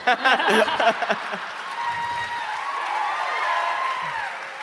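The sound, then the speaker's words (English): A live audience bursts into applause with dense clapping up front, then settles into sustained cheering and whooping that carries steadily for several seconds at a fairly loud level. “This is how democracy dies, to thunderous applause.”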